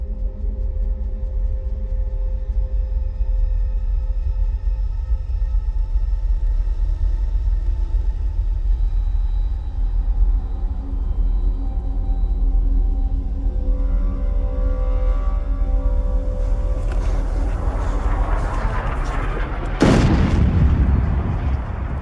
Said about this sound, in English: Bombs burst in great clouds of smoke.